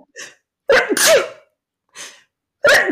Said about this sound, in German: Ich bin sehr froh, dass du eine Frau bist, die laut niest und das nicht... zurückhält. Auch das ist ganz schön viel wert.